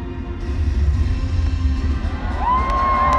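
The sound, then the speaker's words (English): Fireworks boom and crackle over a loud, cheering crowd at the opening of the Special Olympics World Summer Games in Abu Dhabi, with a deep continuous rumble and a rising whistle near the end. “Fireworks have started also.”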